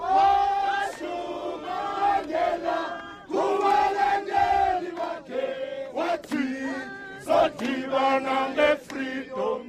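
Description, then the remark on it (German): Hundreds of mourners, including white South Africans, gathered outside Nelson Mandela's house in Johannesburg, sing for him together in loud, sustained chant-like phrases, the voices rising and falling in unison with brief pauses between lines. “Sie singen für den Mann, der ihnen Freiheit und Demokratie gebracht hat.”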